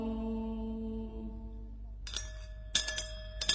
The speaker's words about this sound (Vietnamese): Cái gì cả? À, kìa dây chuông báo hiệu, anh em mau xúc lại kéo lên.